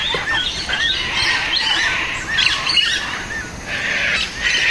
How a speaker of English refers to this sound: And then he landed on Lombok, and immediately he was confronted with this loud, raucous noise of Australian birds.